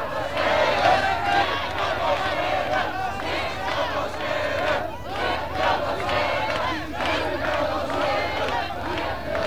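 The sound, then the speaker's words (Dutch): A large crowd shouting and yelling in a continuous, agitated roar during a squat eviction riot, with riot police at a street barricade and shouts from the squatted building, overlapping voices rising and falling with no clear pauses. “De mannen van de mobiele eenheid worden duidelijk geprovoceerd, alhoewel er uit het gekraakte pand wordt geroepen dat beslist niet te doen.”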